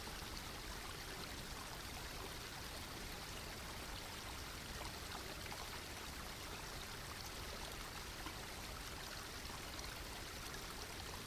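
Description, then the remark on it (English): Steady flowing stream water, a continuous gentle rush and babble that holds an even level throughout, soft and unbroken, with no voices or other sounds over it. “Before you leave this holy stream, bend down and place your hand in the water, blessing it with your love and appreciation.”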